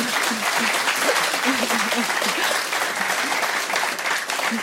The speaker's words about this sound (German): Applaus.